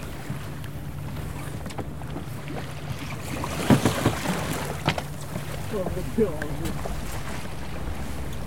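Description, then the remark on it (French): A sailboat sails steadily downwind toward Marseille just after a gybe, with wind rushing across the microphone and water washing past the hull. A low constant rumble runs underneath, with a few brief knocks near the middle and faint voices in the background. “C'est-à-dire qu'on a changé la voile de bord pour pouvoir continuer notre descente sur Marseille, au vent arrière.”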